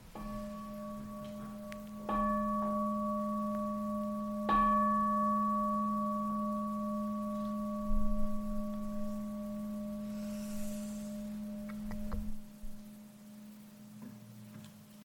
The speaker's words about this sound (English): I'll just ring the bell for good measure.